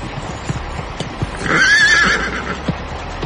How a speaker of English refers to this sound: If you just watch that horse, ma'am. Heavens! He's coming back this way. Ma'am, please, control that horse of yours, will you?